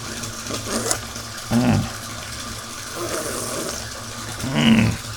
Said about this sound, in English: This tub is starting to get full. Do I need to start being concerned about water levels here?